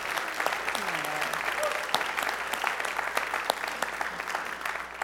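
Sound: audience applauding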